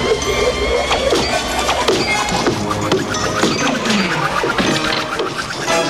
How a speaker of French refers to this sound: Il rêve de décrocher le premier prix à la foire grâce à sa nouvelle machine, une machine à couper du bois. Attention, c'est parti! L'engin se met à pétarader et le voilà qui coupe des bûches et les entasse. Ça marche!